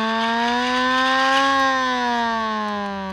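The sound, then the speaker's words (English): A loud World War II style air raid siren holds a steady droning wail, its pitch swelling slightly and then sinking slowly, with no voices over it. “still rocking the World War II style siren.”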